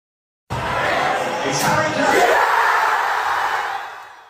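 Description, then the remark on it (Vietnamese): A large crowd of football fans across England erupts in loud, sustained cheering and yelling after Harry Kane's penalty equaliser for England against the Netherlands in the European Championship semi-final, a dense roar of many voices that begins suddenly and holds steady for several seconds. “Người hâm mộ trên khắp nước Anh bùng nổ trong tiếng reo hò sau bàn gỡ hòa từ quả phạt đền của Harry Kane trong trận bán kết giải vô địch bóng đá châu Âu của đội tuyển quốc gia với Hà Lan.”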